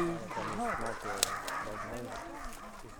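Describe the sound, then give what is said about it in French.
Several dogs bark and yelp in a loose, overlapping series over a steady background hum, with one sharp click partway through. “Bon, avec les chiens, on n'allait pas rentrer, moi je vous le dis.”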